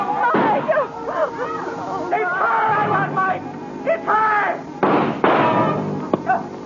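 Gunshots crack out in sharp bursts in a funhouse amid a crowd's panicked shouting and screaming, with a pair of blasts landing close together near the end and another sharp one at the very close.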